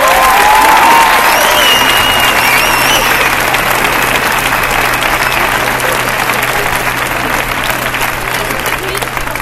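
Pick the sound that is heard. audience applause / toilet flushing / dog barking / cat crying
audience applause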